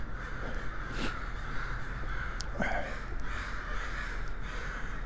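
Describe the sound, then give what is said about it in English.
A dense, continuous chorus of hundreds of crows cawing at once in their morning gathering above a pigeon on the ground, a raucous overlapping din with sharper individual caws popping out now and then, loud, with no talking. “I mean, there are literally hundreds of crows causing a ruckus right above him.”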